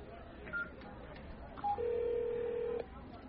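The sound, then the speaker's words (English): A telephone rings on an outgoing call: two brief beeps, then a single steady ringback tone lasting about a second, clear and fairly loud over a low murmur of background noise. “I'm going to make the call, but they're individual showers.”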